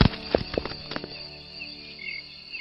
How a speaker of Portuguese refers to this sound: Ele se desvanece, dando vez ao barulho de grilos e folhagens da floresta.